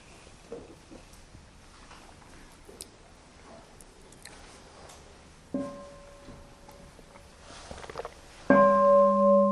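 A bell rings twice against a quiet, faintly rustling background: a softer strike first, then a much louder strike whose rich tone hums on steadily.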